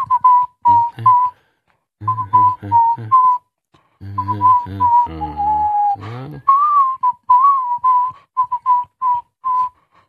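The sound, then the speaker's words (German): Someone whistles a melody, fairly loud, in short rhythmic phrases of quick repeated notes with brief pauses between them. No one talks. “Na, du kannst ja hier nicht die ganze Zeit pfeifen, du Flaum.”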